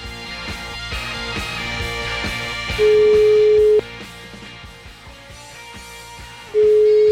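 A phone's ringback tone sounds twice, each a loud steady one-second beep separated by a long pause, over busy background music with no one speaking.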